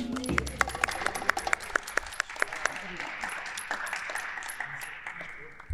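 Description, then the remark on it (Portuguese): An audience applauds steadily for several seconds to welcome a guest who is a dancer, choreographer and writer: a dense wash of clapping with sharp individual claps standing out early on, fading slightly toward the end. “Vai gostar de conhecer, meus senhores e minhas senhoras, um aplauso”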